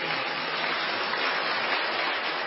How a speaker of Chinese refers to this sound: 我们再次鼓掌，谢谢他的见证。